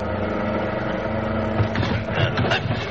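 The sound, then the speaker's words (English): A car engine rumbles steadily, then the sound turns rough and uneven, with jolting thumps and rattles as the vehicle drives down a 60-foot embankment into a rough field. “There's only one way to head the car off. Go down the embankment.”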